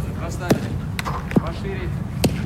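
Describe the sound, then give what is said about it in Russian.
A football thuds sharply four times at uneven intervals as it bounces and is kicked in a game where the players orient themselves by hearing the ball, over a steady bed of background noise and faint, indistinct voices. “Ну, а ребята мяч слышат, ориентируются на мяч.”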